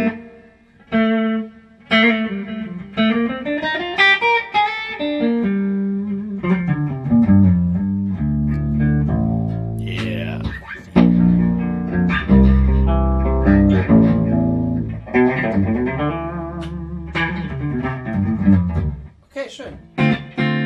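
An electric guitar plays through a Blue Guitar amp with its built-in reverb turned all the way up, sliding and sustained notes blurring into long, washy tails, with brief pauses between phrases.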